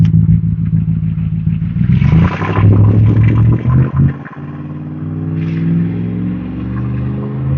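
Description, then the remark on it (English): A loud, rumbling truck engine drones, swelling into a rougher, clattering roar as the truck drives past, then settling into a steady lower growl. No one speaks. “Okay, noisy truck guy.”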